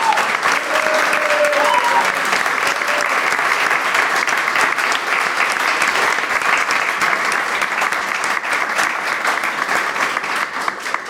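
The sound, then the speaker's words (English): A crowd claps steadily and loudly for about eleven seconds, dense overlapping applause with no break, and a brief cheer or whistle early on. “Let's have a little bit of a round of applause, please, for Alex, Jill, John and Nick”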